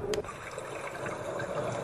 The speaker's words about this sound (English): So this is not a clock. This is just a little sound machine. Now that's wind.